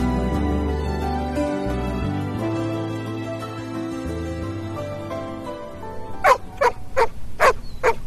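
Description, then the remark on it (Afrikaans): A dog barks five or six times in quick, sharp, loud bursts, right after a stretch of mellow instrumental music fades out. “My kopskoen deur mekaar geblaf.”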